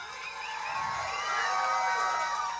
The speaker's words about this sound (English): Please, if you haven't already given them a big round of applause, give it up for the choir.